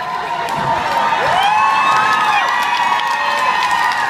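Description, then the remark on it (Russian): A crowd applauds and cheers loudly for performers on stage, with steady clapping beneath rising whoops and shouts, including higher children's voices, sustained throughout. “А вот эти аплодисменты, ребята, Энджел, Ника, для вас!”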